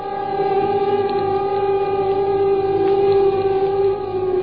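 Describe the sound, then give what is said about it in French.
An air raid warning siren in the Paris region, from an archive of 3 March 1942, sounds ahead of Allied bombing. It wails steadily, a loud sustained tone holding a constant pitch with a second harmonic layered above, filling the whole clip without any voices. “Ce matin, l'alerte a sonné.”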